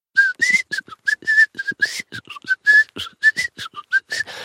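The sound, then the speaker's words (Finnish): A person whistles a bouncy tune in quick, short notes that hop up and down in pitch, clear, with no talking. “Lakkaa vislaamasta!”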